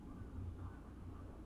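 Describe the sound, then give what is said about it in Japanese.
A low, steady rumble of a train passing by a love hotel in a small town, muffled and continuous for the whole moment, with no voices over it. “あ、でも本当にすごい電車の音するね、ここ。”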